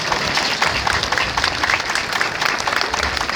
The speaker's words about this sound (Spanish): Debemos agradecerle a la alcaldesa con un fuerte aplauso.